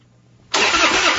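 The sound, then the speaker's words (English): A truck engine cranks loudly without catching, a harsh continuous grinding churn that bursts in after a short moment of quiet and keeps going. “When your truck won't start or your boat or ATV leaves you stranded far from home, that's not good.”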